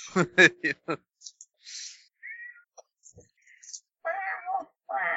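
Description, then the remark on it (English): A cat meows to be let out: a quick run of short, sharp cries, then some faint rustling and small noises, followed by two longer, drawn-out meows near the end. “Let me finish this up here, and then I will let him out before we start.”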